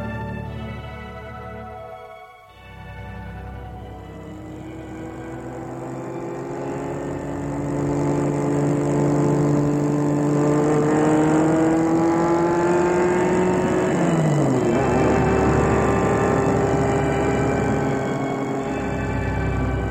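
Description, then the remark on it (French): A car engine hums steadily, then revs up with a rising whine before dropping as it shifts gear and pulls onward, loud and continuous with no voices; the car is bringing people to a headquarters. “Ensuite, ils sont amenés en voiture jusqu'au siège.”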